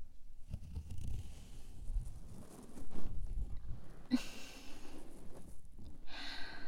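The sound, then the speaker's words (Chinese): Muffled fabric rustling and shuffling as a snug hood is tugged down over someone's head, with a couple of sharper cloth swishes near the end and soft breathing underneath. “好了，主人要帮你把头套套上来了。”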